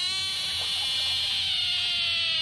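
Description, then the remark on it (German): A frog's loud, high-pitched distress scream, a fright call made with its mouth opened wide when it feels threatened, one sustained shrill wail holding steady for the whole stretch without a break, bright and piercing with no voices present. “Die reißen dann ihr Maul ganz weit auf und schreien ganz laut und hoch.”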